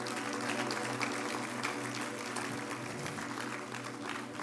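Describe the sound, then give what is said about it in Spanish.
An audience claps steadily for the Lord after a prayer, a dense, continuous wash of applause for several seconds with a sustained hum or organ tone beneath it and no voices on top. “Dele fuerte el aplauso al Señor si usted cree esto.”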